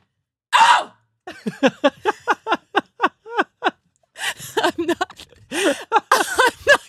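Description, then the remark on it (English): A voice imitates a woman's loud, screaming sneeze that startled a car full of people: a sharp breathy burst, a quick run of short rhythmic gasping yelps, then drawn-out, strained shrieks, loud with no talking. “And she sneezed in a way that I've never heard someone sneeze before.”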